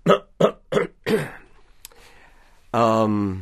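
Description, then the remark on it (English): Four short, rough coughs and throat-clearing bursts come in quick succession, fairly loud, followed by a brief pause before a voice begins speaking. “Is there a button I'm supposed to push? There is actually a cough button.”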